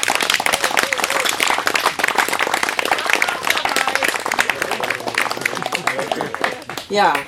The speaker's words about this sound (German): Ich kann mich nämlich erinnern, die so viel Herzblut, Nerven, Lebenszeit für unseren gemeinsamen Kampf investiert und dafür nochmal einen ganz großen Applaus.